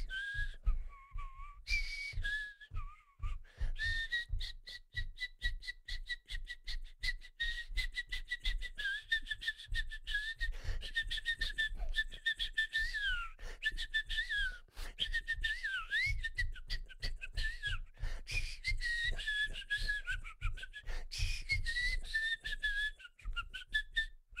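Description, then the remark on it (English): A person whistles a lively, bouncy tune on air, the pitched melody gliding and wavering over a steady, rhythmic thumping beat underneath for the whole stretch. “Mafia doesn't approve of whistling on the air, but when there's free Slurpees involved.”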